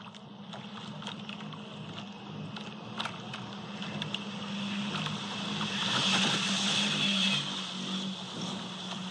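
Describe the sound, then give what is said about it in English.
An AC75-class foiling racing yacht zips past the boat recording it, its rushing water-and-wind hiss swelling to a peak and then easing away over a steady low hum. “And that was it, just zipping past the boat where it was being recorded.”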